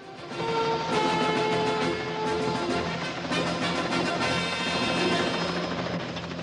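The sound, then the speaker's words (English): A helicopter lifts out of a camp and flies away, roaring, its rotor thumping in a steady rapid chop over a dense engine whine, staying loud throughout with no voices. “As the chopper flies away,”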